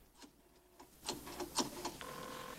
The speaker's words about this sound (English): Ben gets up off the bed and picks up the phone.